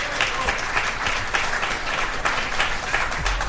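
Many people applauding, steady dense clapping that stays loud and even throughout, with no voices breaking through, welcoming a speaker who is a partner and director at the law firm Leighton's Yuanda Winston.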